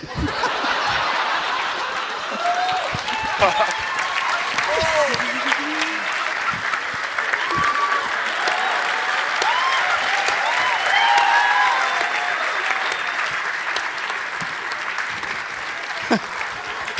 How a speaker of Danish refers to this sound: De knipser. Det gør stand-up, og de knipser.